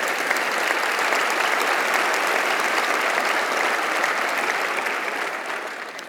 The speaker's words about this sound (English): As a Lutheran pastor, I'm not comfortable with applause, but that's okay if you want to do that. Just kidding, that's fine, as long as you're giving it to God.